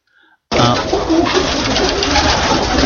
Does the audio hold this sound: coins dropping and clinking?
no